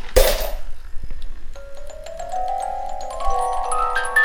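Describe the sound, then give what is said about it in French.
A brief metallic clink as a one-euro coin drops into the slot of a coin-operated sound sculpture, followed moments later by the sculpture starting up with steady electronic tones that step upward in pitch. “Donc dans ma poche, je prends une pièce d'un euro que j'introduis dans la fente.”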